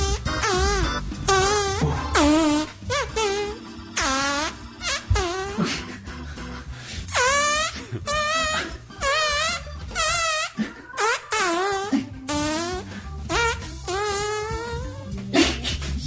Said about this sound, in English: Look, it's probably pretty difficult to fart that song. Let's be honest. That's talent. Mm-hmm. That's talent right there.